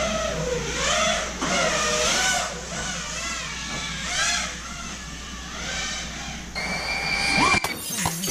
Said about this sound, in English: I think that's why you got to register those things, because they go fast, and they just crash through windows like it ain't nothing.